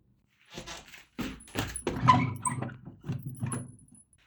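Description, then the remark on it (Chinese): The first drawer slides open, followed by a few seconds of irregular clattering and rustling as small items are shuffled around inside it while someone searches for cold medicine. “在我的抽屉里，帮我取一下。”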